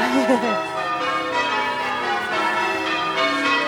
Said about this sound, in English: That is a peal of bells. Just Dorchester Abbey.